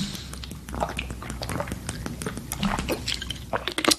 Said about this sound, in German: Sorry, ich trinke jetzt hier mal einen Schluck.